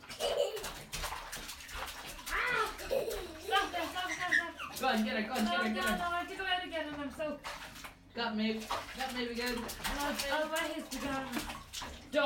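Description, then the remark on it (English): Water splashes repeatedly in a bathtub in irregular bursts as children splash an adult, mixed with lively children's voices and an adult talking over the sloshing throughout. “I'm going to splash me. And splash me.”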